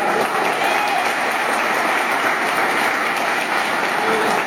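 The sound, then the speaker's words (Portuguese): An audience bursts into sustained applause, a dense, steady wash of many hands clapping at once, loud and even throughout with no voices standing out. “Dá uma salva de palmas, querido.”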